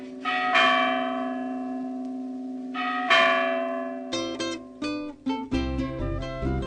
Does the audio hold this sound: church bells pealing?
yes